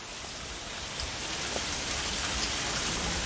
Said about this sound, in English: The plunk of fat raindrops hitting the ground may be music to the ears of gardeners, but that sound sets off alarm bells at the Metropolitan Sewer District, or MSD.